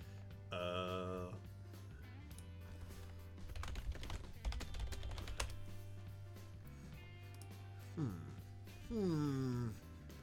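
A burst of rapid, clicky mechanical keyboard typing in the middle, over a steady low hum, with wordless vocal sounds and rising, sliding tones before and after.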